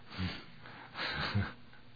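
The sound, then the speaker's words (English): Soft breathing of people in silence, with two or three airy inhales and exhales, one slightly sharper like a snort, and no one speaking. “All you can hear is people breathing.”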